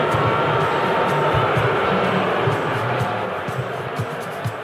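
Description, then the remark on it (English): A large crowd at Madison Square Garden sends up a sustained, low, droning boo at Pat Riley as he comes in for an NBA game, a dense wall of many voices holding steady and loud throughout, easing off slightly near the end. “He comes in and the crowd immediately is booing.”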